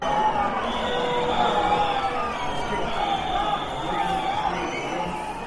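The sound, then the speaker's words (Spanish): A large crowd boos and shouts "fuera, fuera" at Spain's interior minister on his arrival at an official ceremony. A dense roar of many voices with rising and falling cries, loud and sustained throughout, without any single clear speaker. “Marcan los abucheos al ministro el acto central con esos gritos de fuera, fuera durante el desarrollo.”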